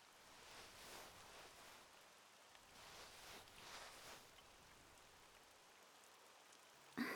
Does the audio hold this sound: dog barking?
no